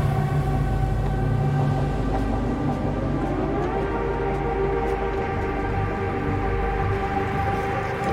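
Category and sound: vehicle, train carriage ambience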